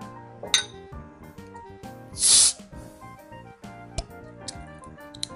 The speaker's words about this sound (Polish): Ale już cały sprzęt potrzebny zorganizowałem, także zaczynajmy otwierać. Mam nadzieję, że będziecie mogli usłyszeć ten taki charakterystyczny dźwięk zdejmowanego kapsla.